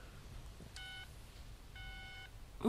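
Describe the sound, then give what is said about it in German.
Two short electronic beeps from a mobile phone keypad as a password is entered, the second slightly longer, separated by a brief pause over a quiet background hum, with a sudden louder noise at the very end. “Nein, Sie müssen das Passwort eingeben.”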